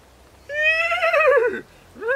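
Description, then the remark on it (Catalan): A horse gives a loud whinny lasting about a second, its quavering pitch sliding downward, then begins a second neigh as the sound cuts off. No hoofbeats stand out. “So, cavall, so! Ja hem arribat, cavall, ja hem arribat!”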